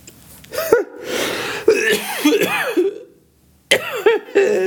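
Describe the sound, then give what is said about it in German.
A loud coughing fit in several harsh bursts, mixed with strained, voiced laugh-like sounds, pausing briefly before a final round of coughs, as a person coughs from laughing so hard. “Da habe ich husten müssen vor lauter Lachen.”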